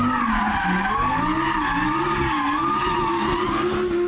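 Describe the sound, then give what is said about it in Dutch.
Car tires squeal loudly and continuously as an engine revs and accelerates, a sustained high-pitched screech with a droning motor underneath, steady for several seconds. “Maar vooral die gierende banden, luister maar, dat is echt heel vervelend.”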